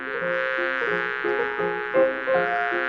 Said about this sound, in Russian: Нос распух, не видно глаза, перекошена щека, и, впиваясь, как игла, на хвосте жужжит пчела.